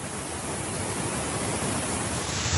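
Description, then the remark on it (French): A steady, loud roar of floodwater rushing down the streets of São Sebastião like cascades during a devastating storm with heavy rain, filling the whole clip in a continuous flow with no voices or breaks. “Les rues de São Sebastião transformées en cascades.”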